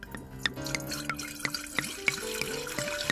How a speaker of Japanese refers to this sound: まあ、本日はこのお酒をご用意させていただきましたので、まずは、乾杯をしたいと思います。 はいはい、 まあ、乾杯はそうですね、やっぱり裏霞全でいきましょうか。 はい、 はい、じゃあちょっと継がさせていただきます。